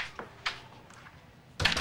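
door closing

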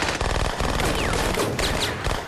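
machine gun fire

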